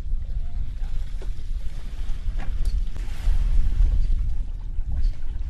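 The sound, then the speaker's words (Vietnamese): A steady, heavy low rumble of large wooden cargo boats motoring across the water as they arrive at a fish collection and weighing site in the Mekong Delta, Vietnam, with wind buffeting the microphone and faint clanks now and then, and no talking. “Nhiều chiếc ghe trục lớn đến bãi tập trung cá cân rồi chở đi khắp nơi trong khu vực đồng bằng sông Cửu Long và cả thành phố Hồ Chí Minh.”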